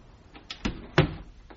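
The door of a house on Rue Hors Château in Liège is pushed open with a couple of sharp wooden knocks and a creaky thud, followed by a softer rattle as it settles.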